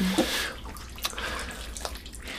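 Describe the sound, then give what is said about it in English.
A bathtub fills with steady running water, a continuous rushing hiss with faint splashes and drips rising through it, heard alone without voices. “You need to get into that bath and chill out.”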